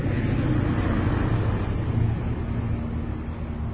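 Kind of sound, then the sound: vehicle, train passing by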